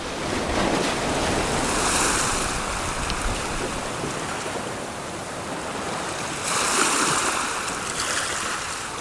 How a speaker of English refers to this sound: And life goes on, and the waves never cease rolling into the beach and back out again.